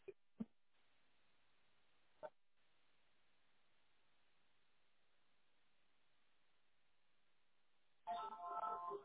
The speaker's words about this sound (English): Someone just texted again.